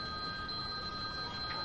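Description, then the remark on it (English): A phone rings steadily with bright, sustained electronic tones, loud, with no voices over it. “Ah, he won't stop calling me.”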